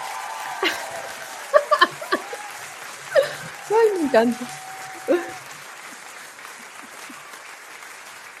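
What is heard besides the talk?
audience applause sound effect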